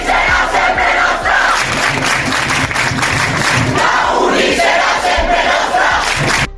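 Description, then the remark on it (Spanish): A large crowd of students protesting in favor of Palestine, blocking entry to a university building off avenida Blasco Ibáñez, chants a slogan in unison, loud and continuous, with rhythmic pulses of voices rising and falling throughout. “Se manifiestan, te recuerdo, en favor de Palestina. La situación se ha trasladado de los jardines de la avenida Blasco Ibáñez a prohibir la entrada al edificio. Tienen un grito.”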